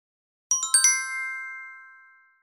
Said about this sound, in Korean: Ringtones. 벨소리 괜찮은데요?